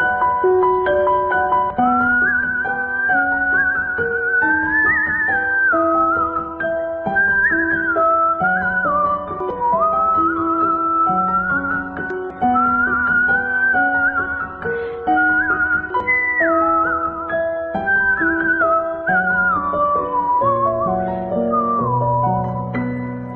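A continuous whistled melody winds up and down over a full instrumental accompaniment, steady and fairly loud throughout, with no talking.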